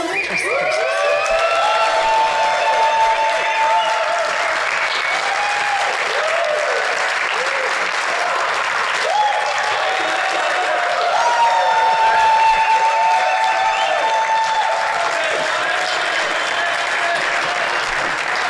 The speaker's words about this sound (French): Quel tonnerre d'applaudissements.